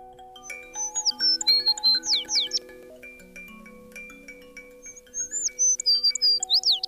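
An American tree sparrow sings two bright, tinkling phrases of high sweet notes and quick slurred whistles, separated by a pause, with soft sustained tones humming underneath.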